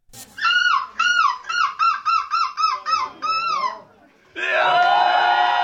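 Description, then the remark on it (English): A man from Eindhoven imitates a seagull's call in his championship performance at a contest: a rapid series of about nine loud, nasal squawking cries, followed after a brief pause by a dense, sustained burst of noise. “entered the contest after his friend said, "Dude, you really sound like a seagull. You should enter." And here is his championship performance.”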